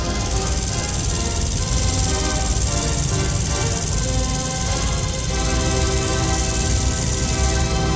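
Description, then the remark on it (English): Organ blower motors in the blower room, making the wind that operates a restored organ at about 4,800 cubic feet per minute, run in a steady, loud mechanical drone with a whooshing airy hiss and a constant buzzing hum, unchanging throughout, with no voices. “You've heard the machines that provide the wind to make this operate.”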